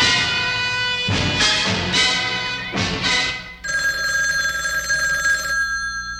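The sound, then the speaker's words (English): An old-style telephone bell rings with a call from the mayor to the police commissioner, in loud, rattling bursts, three quick trills followed by a longer sustained ring, bright and metallic with no voices over it. “The mayor is on the phone.”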